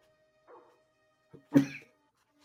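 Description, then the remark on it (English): Muffled sounds of a dog that has gone inside a wall: a soft rustle, a tiny knock, then one short snorting bark-like burst, all fairly quiet. “Uh oh, the dog's gone inside the wall.”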